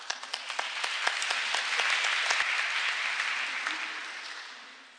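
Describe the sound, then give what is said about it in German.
A crowd in the municipality of Geltendorf applauds to thank the parish priest, many hands clapping in a dense, crackling wash with a few sharper individual claps standing out, holding strong before tapering off slightly at the end. “Und ich denke, das ist auch einen ganz dicken Applaus wert.”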